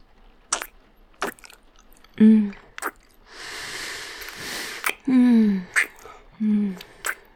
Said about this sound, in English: Oh, your mouth is delicious. So fiery and soft when you kiss. So passionately when you whimper into my mouth needily.